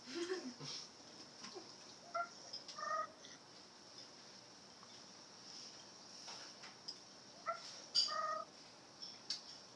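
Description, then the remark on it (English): Faint, scattered chirps and cooing of a bird named Princess, short, high-pitched and irregular, over a steady high hum and soft background noise, with a few murmured sounds but no clear talk. “I think it's the birds.”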